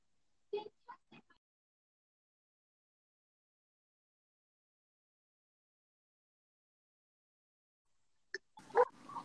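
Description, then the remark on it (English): A German Shepherd barks three times in quick succession, then falls silent for several seconds before letting out another short burst of barking, sounding slightly muffled and thin over a phone line. “Apparently the German Shepherd barks can ruin a connection.”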